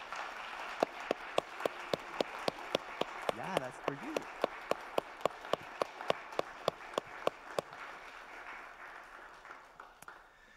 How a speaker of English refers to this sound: Would you clap as an expression of your support?